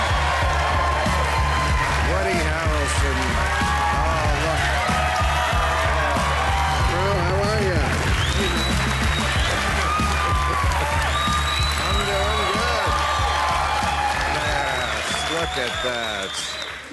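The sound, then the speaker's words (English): A talk-show studio audience claps and cheers steadily as actor Woody Harrelson comes out as a guest, with shouts and whoops rising over dense, sustained applause and overlapping voices throughout, loud and unbroken from start to finish. “They're yelling at you.”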